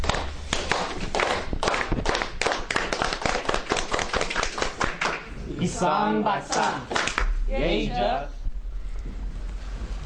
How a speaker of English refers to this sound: That what you saw was the unity clap, and that is shown to represent unity among the people who speak different languages.